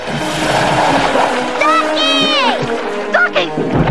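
A heavy splash and churning water wash through the whole moment as a T-Rex slides down into a pool and thrashes about in the water, stomping in the shallows, while loud animal-like cries and a wavering roar rise over the sloshing.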